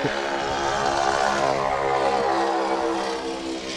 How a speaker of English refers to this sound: Gotta love the noise of the Ford tri-motor.